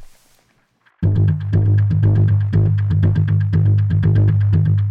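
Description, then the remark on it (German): After a second of near silence, a loud synth sequence processed through Decapitator and EchoBoy plugins kicks in: a droning bass under rapid, evenly pulsing notes, with repeats from the echo delay smearing the rhythm. “Dann der Echo Boy.”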